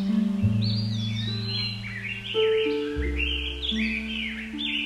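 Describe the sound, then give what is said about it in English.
Toucan birds call repeatedly from thick, rainforest-like woodland trees, skipping across the branches, a string of bright, sliding chirps and whistles over a steady low droning background, with no one speaking. “John sees some toucan birds in the trees.”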